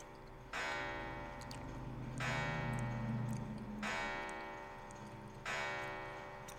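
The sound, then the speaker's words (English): An antique clock chimes with four slow, resonant bell strikes about 1.6 seconds apart, each ringing out and overlapping the last, heard alone with no talking. “oh, that's my antique clock.”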